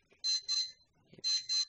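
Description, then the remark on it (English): Loud electronic beeps come in pairs, two short tones, a pause, then two more, sharp with a harsh alarm-like buzz and nothing else around them. “Somebody's beeping.”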